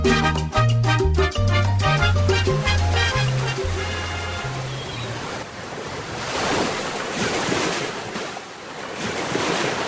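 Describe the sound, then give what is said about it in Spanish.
A melodic music passage fades out over the first few seconds, giving way to the soft, steady wash of gentle ocean waves rolling in and breaking slowly on the shore at dawn, swelling and receding almost where the first houses of the port of Yarica begin. “Desde tempranas horas, las suaves olas mueren lentas casi donde comienzan las primeras casas del puerto.”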